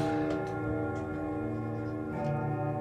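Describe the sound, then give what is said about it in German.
A household clock ticks at a slow, steady pace over a sustained, humming metallic resonance, with no voices, before it strikes. “Unsere Uhr. Warten wir kurz ab, den Glockenschlag, ja.”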